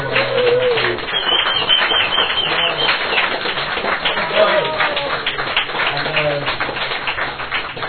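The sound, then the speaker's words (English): An audience at a poetry show gives a final round of applause for the evening's guest. Many hands clap in a dense, continuous patter at an even loudness, with a few voices and whoops rising through the noise. “While she's rummaging through her bag to get her poem, can we get one final round of applause to our guest tonight for coming all this over there?”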